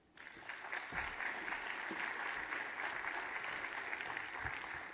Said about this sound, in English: Somebody, maybe join me in one more round of applause for our commissioners and for all the volunteers.